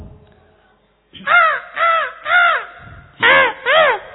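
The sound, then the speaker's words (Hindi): A voice imitates a crow, giving five harsh, nasal caws in two groups: three evenly spaced calls, a short pause, then two more, loud. “ये कौवे का गला दबा दिया किसी ने”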